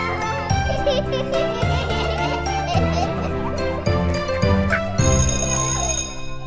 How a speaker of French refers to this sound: La cloche sonne, c'est la récré.